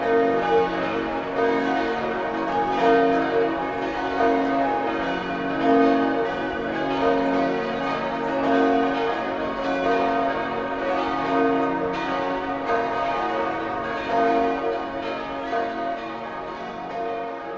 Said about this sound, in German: Seit 1950 läuten in Admont 7 in St. Florian gegossene Glocken.